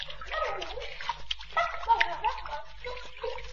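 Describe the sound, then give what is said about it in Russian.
Splashes of a group of young ones diving into a river, a run of bright, noisy bursts and sloshing over a few seconds, with a steady low hum and some vocal sounds mixed in. “Они нырнули. И я нырну.”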